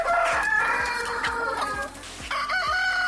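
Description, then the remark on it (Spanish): A rooster crows loudly at dawn in a village in Asturias, Spain, its long strained call rising and falling over a busy background of other fowl clucking, with no voices present. “El canto del gallo es uno de los sonidos que buscaba proteger la ley”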